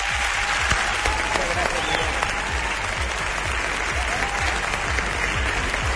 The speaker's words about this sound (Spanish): yo también pido un aplauso al responsable de que estemos aquí.